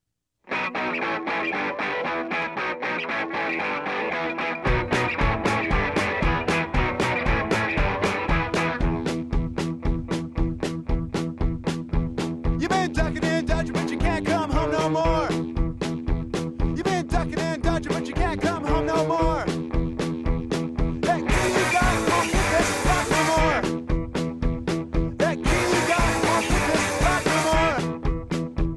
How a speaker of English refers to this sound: The rapidly strummed electric guitars, the slamming drums, the jittery bass, the shouted vocals.